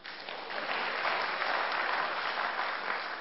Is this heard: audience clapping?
yes